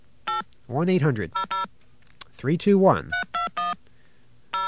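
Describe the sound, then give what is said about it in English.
Touch-tone dialing of an AT&T 800 number on a COCOT payphone: a run of short, steady beeps in quick clusters, with a voice briefly sounding between the groups of tones. “Let's call this 800 numbers.”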